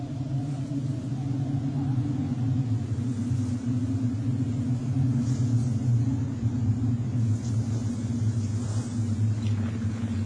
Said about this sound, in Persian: آن چیست؟ طوفان است. باید در جای پناه بگیریم.